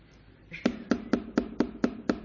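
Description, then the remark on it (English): Seven quick, evenly spaced, firm knocks on a door by a pastor, landing in a steady rapid rhythm with no voices around them. “Somebody's at the door.”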